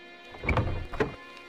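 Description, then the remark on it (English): A door is pushed open into a bare room, with a short mechanical rumble and a couple of soft thumps about half a second apart, then quiet. “She pushes open the door to a bare room.”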